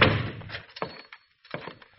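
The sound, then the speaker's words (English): A door is shoved open with a heavy thunk, followed by a few dull knocks and a second thud after a short pause, moderately loud. “If you want in, just shove the door.”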